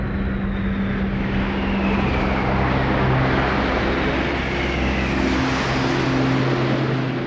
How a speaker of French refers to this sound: je me suis réveillée un peu avant que vous m'appeliez parce que j'entendais passer des avions très bas. D'habitude, il n'y a pas d'avions ici, enfin, on ne les entend pas, quoi. Et là, ça faisait comme des avions à réaction qui passaient très bas.